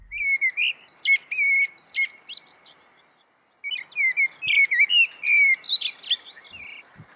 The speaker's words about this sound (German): Also, schon eine Dreiviertelstunde vor Sonnenaufgang meldet sich zum Beispiel häufig die Amsel und die klingt so.